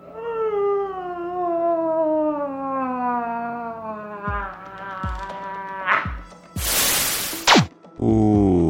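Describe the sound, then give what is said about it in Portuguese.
A loud, drawn-out yawn: a long, whiny tone slowly sliding downward, then a few short clicks and a breathy, hissing exhale before a brief closing vocal sound. “Que soninho! Vamos bocejar bem alto.”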